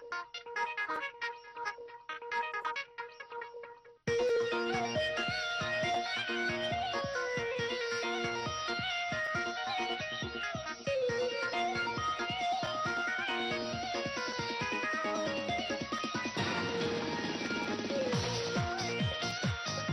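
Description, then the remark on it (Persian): Instrumental music opens with a few sparse, soft tones, then a fuller, busier arrangement comes in after about four seconds and continues steadily and loudly to the end, with no voices; background music for a radio program's text-message segment. “موسیقی پیامک هاست و ما در خدمت حسین آقای معصومی هستیم برای خواندن پیامک ها.”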